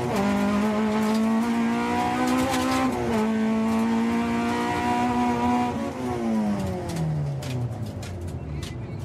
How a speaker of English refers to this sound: To save weight, they've ripped out all the seats and the soundproofing. This is what your average family car sounds like, just as a metal box. You can hear every bit of gravel hitting the underside of the car.